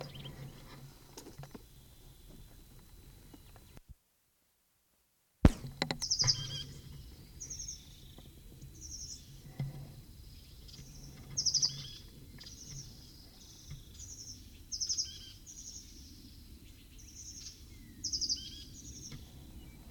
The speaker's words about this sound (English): 8:44, same bird.